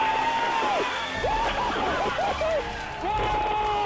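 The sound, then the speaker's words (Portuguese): A room full of NASA team members responsible for the Curiosity rover erupts in loud, sustained cheering and excited shouting as its touchdown on Mars is confirmed, with overlapping voices, whoops and applause filling the space throughout. “A explosão de alegria que acabamos de ouvir foi causada pela curiosidade”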